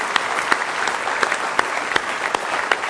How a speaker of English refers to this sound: Praise the Lord. Somebody say praise the Lord. Let's give Him one good hand clap of praise this morning if you love Him with all your heart.